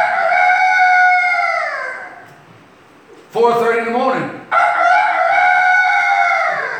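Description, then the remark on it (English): A man's voice loudly imitates a rooster's crow at night, two long drawn-out crows separated by a short spoken phrase. “You just about get to sleep and a rooster goes off.”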